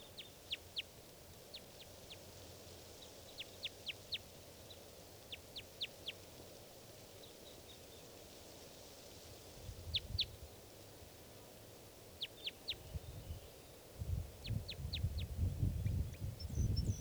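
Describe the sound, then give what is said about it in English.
Calls of at least two wild crossbills: short, sharp high-pitched chips in quick clusters of two to four, repeating throughout, with low rumbling background noise growing toward the end. No talking. “Starting just a little bit later, and there is a crossbill here, or two.”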